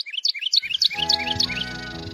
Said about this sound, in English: In North America, a Carolina wren tilts an open bill to the sky.